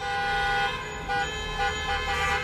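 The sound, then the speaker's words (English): Car horns honk in a steady, continuous blare from protesters outside demonstrating against school and business closures while Governor Cuomo speaks, several overlapping tones held for the whole moment with little break, fairly loud over a low rumble of traffic and no voices. “While the governor spoke, the sound of car horns could be heard outside as protesters, tired of the school and business closures, held a demonstration, saying they're being hurt economically.”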